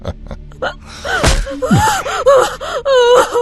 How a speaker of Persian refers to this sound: گریه نکن، ما اونو دزدیدیم چون خیلی گریه می کرد.